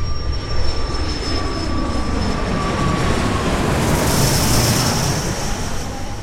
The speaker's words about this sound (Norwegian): Fredrik er altså ikke redd i det flyet sirkler over Kabul før det lander.